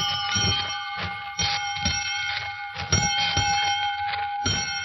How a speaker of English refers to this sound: Well, that bell calls class to order, Quiz Kids, and here's your first question.